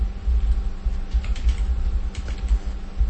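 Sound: computer keyboard typing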